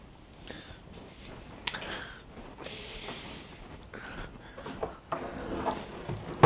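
door being shut

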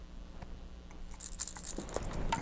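keys jangling

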